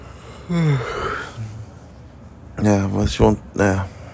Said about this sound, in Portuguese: Acabei bocejando. Isso aí é um indício de sono. O bocejo, ele é um. Dizem que ele é um sistema que o corpo tem para não deixar você dormir.